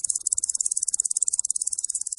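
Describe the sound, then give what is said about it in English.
A cricket chirps steadily in a rapid, pulsing rhythm, made by rubbing its wings together, its high-pitched trill continuous, with no voices and only faint low rumble beneath. “Crickets produce their chirruping noise by rubbing their wings together”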